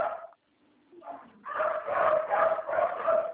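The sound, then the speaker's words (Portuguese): A dog makes a short whine and a low growl, then gives a run of steady barks that overlap into a continuous stretch of yapping, with no one talking. “Mas o cachorro fica quieto lá”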